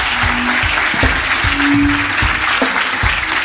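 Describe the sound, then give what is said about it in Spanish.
Loud, steady applause from an audience at the start of a show segment called 'Tengo algo que decirte' fills the whole clip, a dense wash of clapping with a few sharper individual claps standing out and a faint tonal hum underneath. “Un fuerte aplauso.”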